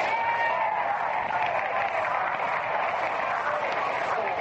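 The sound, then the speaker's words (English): A big stadium crowd at a baseball game applauds catcher Lombardi, the first man to bat in the last half of the second, a dense, sustained wash of clapping and cheering that holds at an even, loud level throughout without a break. “game is going into the last half of the second, and the first man to bat, a Cincinnati boy, gets a tremendous hand from the crowd.”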